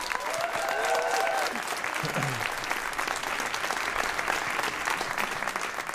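A crowd applauds steadily, a dense, continuous patter of many hands clapping at moderate loudness, with a few brief whistles or voices rising over it near the start.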